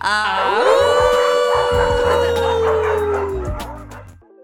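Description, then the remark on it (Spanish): People howl like dogs all at the same time, as a tradition, in one long, loud, drawn-out howl that swoops upward and holds for about three seconds before fading, with a low steady tone underneath. “aquí hay una tradición que hay que aullar cuando yo cierro este podcast”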